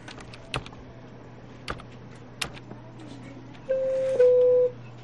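Three slow, distinct clicks of keys as a student types the spelling word "red" on a standard computer keyboard, followed by a steady two-part electronic tone, all over a faint low hum with no talking.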